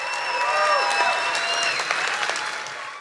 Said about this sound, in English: And let's get a round of applause as we go to break for people at home.